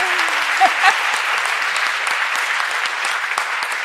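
An audience claps steadily throughout, a dense, even wash of many hands at a fairly loud level, with a brief voice fragment near the start.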